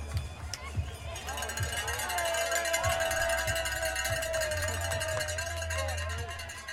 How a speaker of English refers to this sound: The first rider emerges from the torchlit depths of the climb, crest the summit to a cacophony of cowbells.